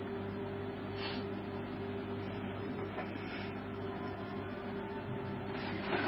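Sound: air conditioner running hum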